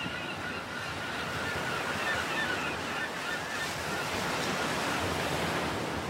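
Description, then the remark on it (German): Continuous ocean surf washing steadily onto the shore, a broad rushing roar with no pauses, joined by faint seagull calls. No one speaks. “Überall um dich herum sind die Geräusche des Meeres und der Möwen.”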